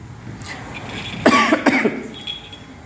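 A man coughs twice in quick succession, two harsh, fairly loud bursts, followed by quiet with faint background noise.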